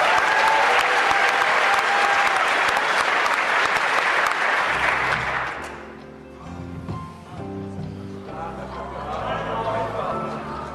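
Loud, dense audience applause fills the first five seconds or so, a steady wash of many hands clapping, then dies away as a short tonal musical passage takes over.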